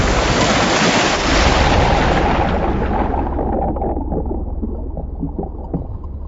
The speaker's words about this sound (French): En un éclair, elle est projetée par-dessus le cockpit et se retrouve sous le bateau renversé.